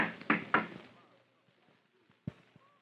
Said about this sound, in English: You knock until somebody answers.